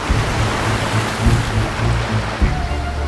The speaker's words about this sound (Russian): Добравшись до конца утеса, человек что-то прокричал и бросил спасательный круг в море, туда, где волны с яростью набрасывались на камень и вздымали фонтаны брызг.